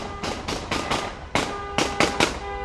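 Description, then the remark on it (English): Celebratory gunfire into the air from relatives approaching a family home: about nine loud, sharp cracks in an uneven volley, some in quick pairs, over a steady droning tone with no talking. “The relatives honk and fire guns into the air in celebration as they approach the house where his tearful mother and sisters are waiting.”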